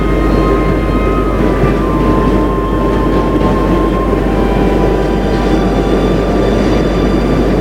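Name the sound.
subway train running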